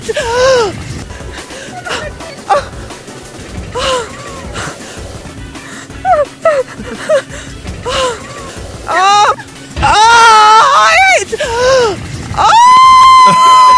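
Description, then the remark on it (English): A phone ringtone of a man screaming on a roller coaster: he screams and gasps repeatedly, with rising and falling wails and breathless yelps, ending in a long, loud sustained shriek over rumbling background noise. “Every time your phone goes off, this happens.”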